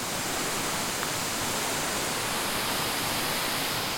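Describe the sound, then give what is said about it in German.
A waterfall in the Tobel von Stoll thunders in a large cascade over a high rock face, its water coming down from the Prasignola Pass, in a steady, dense, loud roar of rushing water that fills the whole sound without pause, with no voices. “Dort donnert das Wasser in einer großen Kaskade über eine hohe Felswand, vor der Marcello Negrini anhält.”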